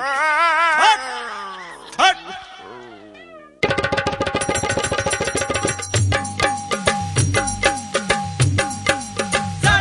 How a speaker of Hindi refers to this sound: हटाओ ना रे कुत्ता को, हटाओ ना कुत्ता को, मारो साला को।